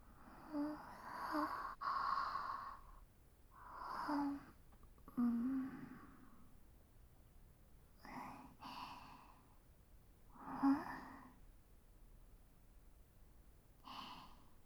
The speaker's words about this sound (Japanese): 指揮官もあくびです